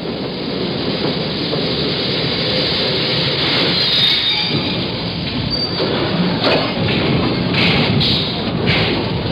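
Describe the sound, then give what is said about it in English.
A subway train rumbles loudly and steadily, its wheels grinding and screeching in brief high bursts as it rises from the tunnel and slows to a stop at 135th Street. “The subway rises from the tunnel and stops at 135th Street.”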